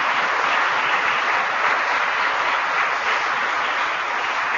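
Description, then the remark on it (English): Sustained audience applause for the innovators in American agriculture, a dense, steady wash of many hands clapping at an even loudness throughout, with no voices rising above it. “Let's give a round of applause to all the great innovators in American agriculture today.”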